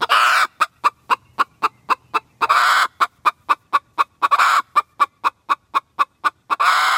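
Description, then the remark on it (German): An old hen, the oldest of a keeper's several hens, clucks agitatedly and loud, in a fast, steady stream of sharp clucks broken by a few longer, drawn-out squawks, with no other sounds around it. “das älteste unter ihnen heißt Professorinnenhuhn und es klingt so”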